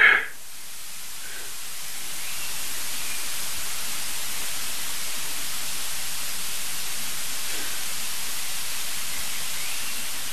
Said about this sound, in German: Wir hören Wind rauschen, das war's.